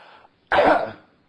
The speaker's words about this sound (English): Now, let's have a real good cough to get real good attention. Come on now.